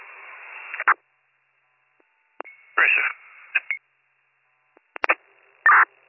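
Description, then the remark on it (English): A telephone call to a phone number ringing over a crackly, band-limited county radio channel: a steady electronic tone in short bursts, broken up by hiss, clicks and brief squelch noise. “Call back for the number, it rings.”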